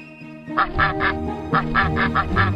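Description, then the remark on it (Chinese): A cluster of ducklings quacking and peeping in quick bursts as they file in a line into a big barn, several overlapping calls repeating in a steady rhythm, fairly loud and with no talking. “又来了一群没有妈妈的小鸭子，他们排成一队，就这样叽叽喳喳地进了大谷仓。”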